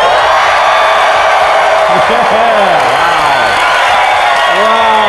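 A large live crowd at the 2017 Entree Leadership Summit, on day three, cheers and applauds loudly and without pause. Dense clapping fills the sound while scattered whoops and yells rise and fall above it.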